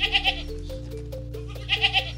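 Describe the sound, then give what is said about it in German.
A goat bleats twice in quick, wavering bursts, one at the start and one at the end, with a steady low hum filling the pause between. No one speaks. “Ja, wir hatten eine Ziege früher, als ich klein war.”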